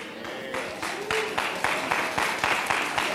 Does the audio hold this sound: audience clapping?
yes